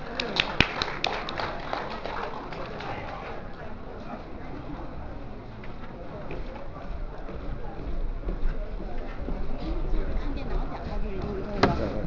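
A room full of people applauds steadily for about twelve seconds, a dense, even wash of clapping with a few sharper claps standing out near the start and end.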